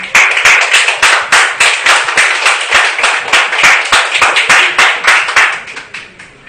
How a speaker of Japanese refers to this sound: ものすごい拍手もありがとうございます。